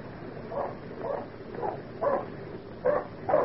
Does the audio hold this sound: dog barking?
yes